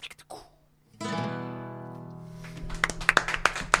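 Audience applause breaks out as a sustained musical chord rings out, scattered claps building quickly into a dense, loud patter over the fading tone.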